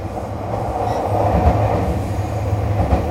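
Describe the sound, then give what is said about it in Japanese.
Limited Express No. 231 bound for Naganohara-Kusatsuguchi, next stopping at Akabane, running steadily, recorded from inside a carriage: a continuous low rumble with droning low tones and faint rhythmic rattling, fairly loud and even throughout, no voices. “特急231号長野原草津口行きです。”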